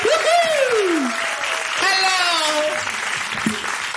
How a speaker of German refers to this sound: Ich glaube, hier ist AKA Kelt. Ein großer Applaus für AKA Kelt! Applaus, Applaus!